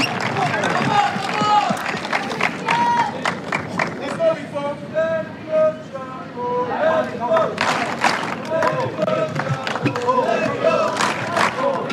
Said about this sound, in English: The crowd has just got so much energy. You can hear them in the back there